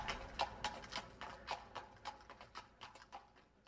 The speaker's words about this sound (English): I helped him to get back onto his horse, and he rode away without thanking me.